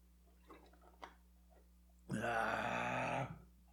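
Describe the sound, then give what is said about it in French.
A few faint slurping clicks of someone sipping a drink, followed by a loud, drawn-out satisfied groan lasting about a second. No one speaks. “La fameuse, la fabuleuse gorgée de ….”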